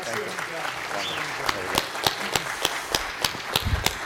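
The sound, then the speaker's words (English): An audience gives a final round of applause for Lord Monckton, a steady wash of many hands clapping with a few sharper, louder claps standing out in a loose rhythm, while faint voices murmur underneath. “One final round of applause.”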